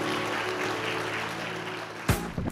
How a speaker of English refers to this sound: Did you guys get something today? Give God a good praise clap. Amen.